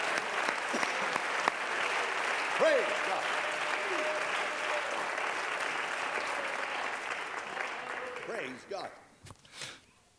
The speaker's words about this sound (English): If you're glad for the cleansing of sin, let's clap our hands unto him right now.